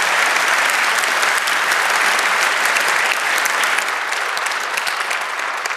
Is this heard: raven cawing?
no